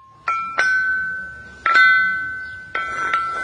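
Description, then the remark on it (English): Archaeologist Jean-Lou Ringot plays a group of stones called a lithophone, or rock gong: about five bright, bell-like hits, each a clear pitched tone that sustains and slowly fades, played alone at an unhurried, uneven pace. “Archaeologist Jean-Lou Ringot is playing on a group of stones called a lithophone, or a rock gong.”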